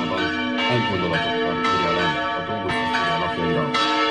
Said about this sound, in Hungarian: Kettős ünnepre hívta a madéfalvi templom harangja a helyieket és meghívottjaikat vasárnap, ugyanis Jézus szíve búcsút ünnepeltek, de az ünnepen megáldották a felújított templomot és orgonát.